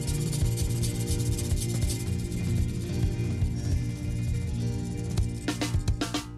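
A lively zydeco song plays loud and steady, with a thumping bass line and a bright, continuous scraping rhythm like a rubboard driving the beat, and sharp percussive hits near the end.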